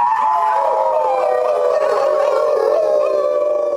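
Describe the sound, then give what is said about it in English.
Eight men auditioning for a wolfman role howl together on stage at a local playhouse in imitation of wolves, overlapping sustained wavering tones that rise and fall, loud, filling the whole stretch without any talking. “Before the audition, the 8 potential Wolfmen gathered on stage at a local playhouse for a group howl.”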